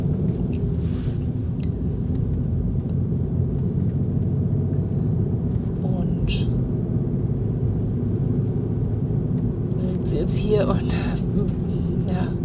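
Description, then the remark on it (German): A steady, low engine rumble fills the inside of a car, recorded on a clip-on microphone by someone sitting in the car, droning continuously throughout with a few brief, faint higher-pitched sounds over it. “Ich sitze im Auto und habe mein Ansteckmikrofon dabei.”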